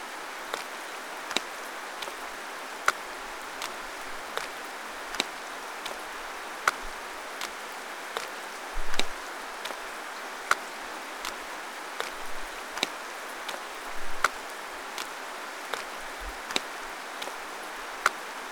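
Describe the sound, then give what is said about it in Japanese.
Steady rain falls with a soft, even hiss, broken by frequent sharp taps of drops striking a surface at irregular intervals. No one speaks. “ごめんね、わざわざ雨の中。”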